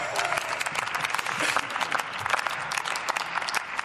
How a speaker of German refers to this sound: Jetzt wäre der Moment zu klatschen.